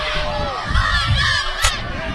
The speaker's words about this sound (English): I like the fact our fans are cheering the right cheer, but you can see they're not too happy about it.